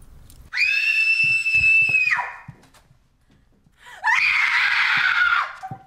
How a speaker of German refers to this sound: Nennst du das etwa schreien?